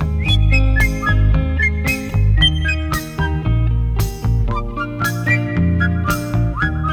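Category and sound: human body sound, person whistling a tune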